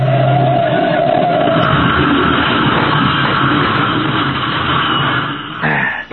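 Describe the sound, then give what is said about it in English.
A loud car crash on a curve: an engine drone gives way to a dense, sustained crashing and clattering din lasting several seconds before it cuts off abruptly, with no voices. “And now we're going to have the same kind of accident Anderson had. Okay, Patsy, here's the curve.”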